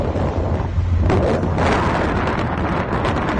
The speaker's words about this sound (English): with all that wind going on and everything, you wouldn't be able to hear it anyway. A lot of wind going on